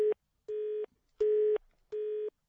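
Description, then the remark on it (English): A telephone line sounds a series of steady electronic tones, four loud, even beeps with short gaps between them in a regular on-off rhythm, with no voices present. “Oh, what's gone wrong with the phone now?”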